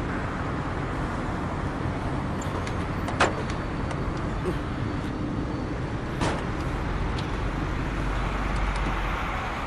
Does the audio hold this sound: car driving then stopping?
yes